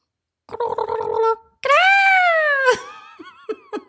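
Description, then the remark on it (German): A voice imitates fulmar calls: a rapid, stuttering guttural cackle, then a loud, drawn-out nasal wail that rises and falls, ending in a few short throaty gurgles. “Sie unterhalten sich überwiegend mit gackernden, knurrenden und kehlig glucksenden Lauten.”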